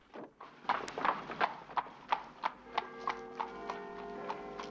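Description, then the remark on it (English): Hooves clip-clop steadily on a hard road as a horse-drawn cab carrying three people moves off from outside a villa at night in falling snow, the evenly spaced hoofbeats crisp, with a faint creak and rumble of the carriage beneath. “the two men lead her husband to a horse-drawn cab, which is waiting outside the villa in the night.”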